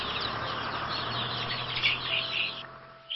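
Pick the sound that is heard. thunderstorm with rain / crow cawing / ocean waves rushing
crow cawing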